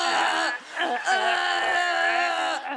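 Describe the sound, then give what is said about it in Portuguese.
A voice imitates a horse-like cry, a loud, wavering wail of about three seconds with shaky pitch and a brief break midway, more whinny than sob. “às vezes, choro como um cavalo e faço...”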